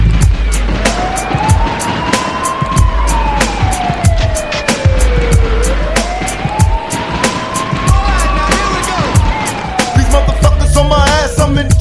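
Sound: police siren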